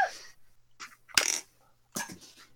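Dice clatter and tumble across a hard tabletop in several separate rolls, the loudest landing near the middle, with brief quiet gaps between bursts and no talking, as players make perception rolls during a game.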